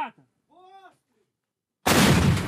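artillery cannon firing

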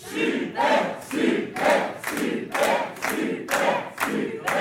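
audience applause and cheering

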